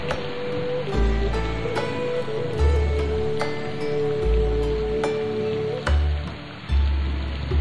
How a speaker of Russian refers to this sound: Дождь.